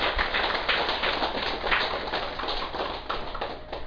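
An audience at a Buddhist talk breaks into a dense, steady round of applause in honour of the Buddha, many hands clapping at once in a continuous crackling wash that holds an even loudness for about four seconds, with no voices.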